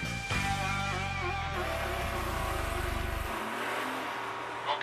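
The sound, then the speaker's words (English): An engine revs loudly and continuously, its pitch climbing and dropping as gears shift, before the roar cuts off near the end. “They also let an engine work more efficiently to turn those big wheels.”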